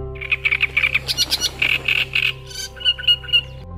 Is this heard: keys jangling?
no